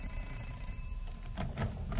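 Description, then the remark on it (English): A house doorbell rings quietly, with a faint steady tone underneath and then three short buzzing bursts toward the end, over a low hum and no talking. “We've only rung a little over 200 doorbells. Let's try this house.”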